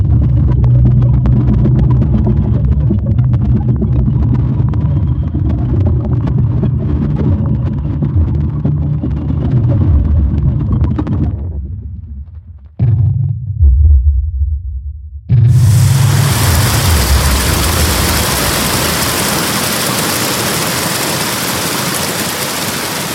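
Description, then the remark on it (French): In a gallery, a deep, steady roar of rushing air, arriving ahead of the water, briefly drops away, then a loud, bright surge of floodwater crashes in and keeps churning. No voices. “tu l'entends arriver, tu entends le bruit. L'air d'abord.”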